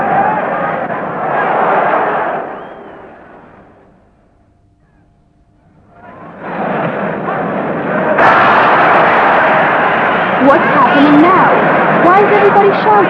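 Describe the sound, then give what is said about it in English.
A loud football stadium crowd roars, fades almost to a hush for a couple of seconds, then surges back even louder with shouts and chanting voices rising above the din. “I can't hear anything. This is a very noisy crowd.”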